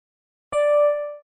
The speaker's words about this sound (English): Engaged tone. Obsadzovací tón. Engaged tone.